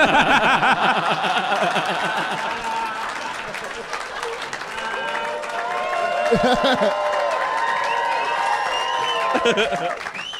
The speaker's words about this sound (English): I got to tell the listeners that applause was, a lot of that was just because the Morin was Snapchatting.